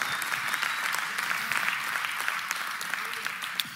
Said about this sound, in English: If you receive that, one more time, clap the hands unto the Lord.